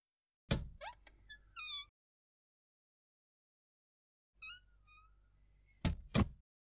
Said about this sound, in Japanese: 地下2階に着くと重いドアを開いて中に入る。